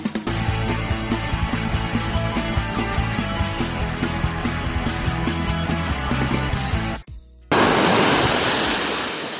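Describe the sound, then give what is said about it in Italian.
A music passage plays, breaks off briefly, then gives way to a loud rush of sea water sloshing and lapping around feet wading in the shallows, recorded with a phone held in the water. “Effetti speciali oggi, Effetti speciali, i piedi in acqua direttamente sul col telefono in acqua solo per voi a fare il cretino.”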